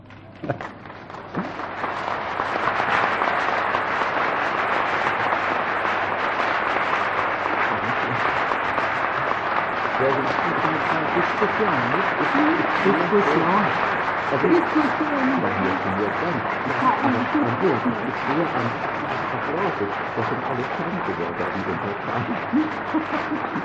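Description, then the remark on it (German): Sustained applause from a large audience at a congress, a dense, steady wash of clapping lasting around twenty seconds, with some voices faintly audible underneath. “Also ich sagte Ihnen, Sie brauchten nicht zu applaudieren, ich sehe aber an Ihrem Applaus gehorsame Untertanen sind Sie bestimmt nicht.”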